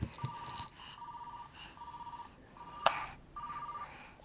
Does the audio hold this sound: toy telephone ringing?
yes